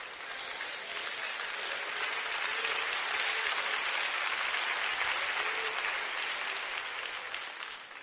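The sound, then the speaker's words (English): Sustained applause from a church audience during a sermon, a dense, steady wash of many hands clapping at once, swelling slightly in the middle and holding fairly loud for the full length with no voices over it. “If y'all all clap together, nobody will know I'm talking about you.”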